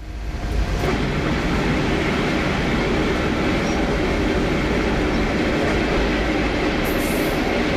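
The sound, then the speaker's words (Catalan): A train rumbles steadily along the tracks, loud, with wheels grinding and wooden carriage rattles and creaks blending into a continuous clatter throughout. No voices are heard. “M'ensopeixo una mica, però sempre sento aquesta cruixidera de rodes i de fustes.”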